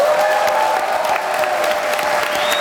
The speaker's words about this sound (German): Der Applaus hallte lang und laut durch den großen Saal des Staatstheaters in Oldenburg, als der große Gewinner des Filmfestes bekannt gegeben worden ist.